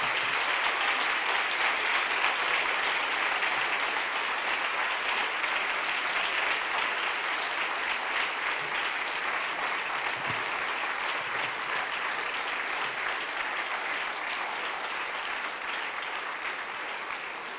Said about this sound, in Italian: Facciamo un applauso a Padre Francesco.